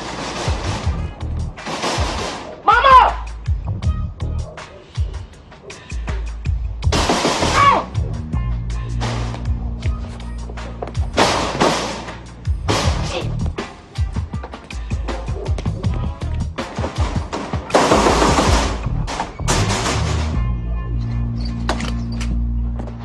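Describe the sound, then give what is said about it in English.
Loud, rattling bangs on a metal screen door, struck repeatedly in uneven bursts, each clang ringing briefly over a low, steady background hum. “Funny as fuck, like, because like normal people don't have those fucking screen doors that make that noise when you bang on them, so that shit is just all hilarious.”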